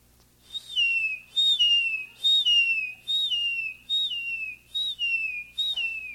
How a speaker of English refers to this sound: Here in Florida, we have many waterways. And along these rivers and swamplands, you'll hear some of the following. In the saltwater coastal areas and marshes, you hear the crying of the seagull.